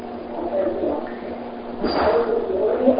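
A front door swings and shuts partway through, a single muffled scrape and thud over a steady low background hum, at moderate volume.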